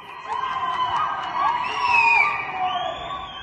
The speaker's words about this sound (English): In the west of the capital, Tehran, people were filmed cheering and whistling from their windows and balconies as celebrations echoed between tall apartment blocks.